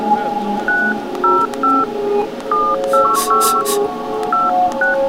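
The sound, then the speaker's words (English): A string of about ten telephone keypad dialing tones, short bright beeps pressed in an uneven quick sequence, sounding clearly over a dense musical backing track. “Hope she answered the phone.”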